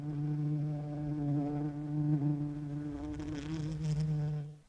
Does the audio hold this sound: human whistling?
no